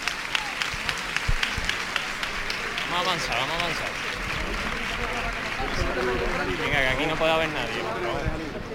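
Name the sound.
crowd applause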